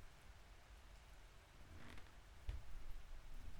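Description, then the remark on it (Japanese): A sudden summer evening rain shower hisses steadily across surfaces, soft and diffuse, with a few sharper drips and a faint low rumble partway through; no voices. “夕立は天気予報では言ってくれなくて。”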